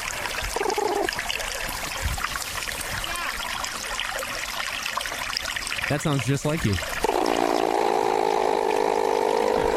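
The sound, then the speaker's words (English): Continuous trickling, splashing water with a brief growly, wavering platypus call partway through, followed by a steady droning tone. A person speaks briefly over the water. “I've got a video called Call of the Platypus”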